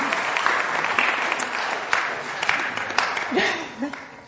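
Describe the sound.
On Easter Day, an audience applauds a speaker steadily, a dense wash of clapping that holds for several seconds before a voice begins speaking over the fading claps near the end.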